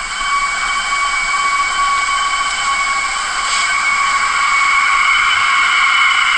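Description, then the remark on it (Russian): Wind whistles steadily through an aluminium balcony door, a loud, sustained, high-pitched tone with several shrill overtones that hold for the whole stretch, with no voices present. “Чтобы было понятно, она алюминиевая, эта дверь. И вот сквозь нее дует.”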